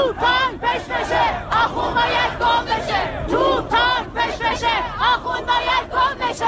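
A large crowd of protesters in Tehran, Iran, around Azadi Square and Enghelab Street, chants anti-government slogans in loud, rhythmic unison, voices rising and falling in repeated bursts over a steady roar of many people shouting together.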